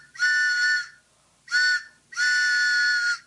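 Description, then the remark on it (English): A train whistle announcing the Back of the Book WBAI pitching train sounds three times, a long blast, a short one, then another long one, each a steady, bright, reedy chord with no voices. “Oh, chugga chugga, it's the Back of the Book WBAI pitching train.”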